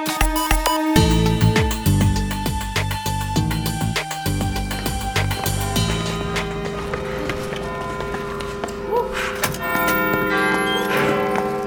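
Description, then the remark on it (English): The Odyssey Clock Tower bell, after the clock has gotten stuck, chimes a sequence of deep, resonant tones that ring and overlap, while quick, steady footsteps tap throughout; later, higher shimmering tones join the ringing. “It's a scene that takes place after the Odyssey Clock Tower has gotten stuck, and Eugene and Matthew have gone to investigate, and they discover, well, let's listen.”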